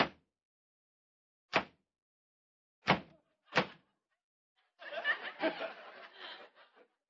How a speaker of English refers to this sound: And listen, Kingfish, stop slamming that door, will you?